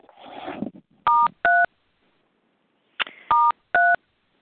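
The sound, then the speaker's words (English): Telephone keypad tones: two pairs of short, steady dual-pitched beeps separated by a pause, each pair preceded by a brief rustling clatter. No one speaks. “I now invite everyone who cares to please press star 1 to unmute so we can say the Serenity Prayer together.”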